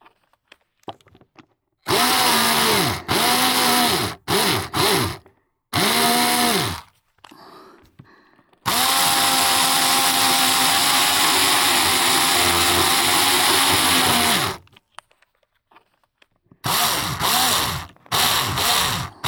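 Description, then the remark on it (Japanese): A power drill with a wide bit, run at varying speeds, whines loudly in several short bursts, revving up and down, then bores steadily for about six seconds before a few final quick bursts, loud once it goes through. No one speaks. “こちらの歯は幅が太いので、貫通後は大きく音が出るんですよ。”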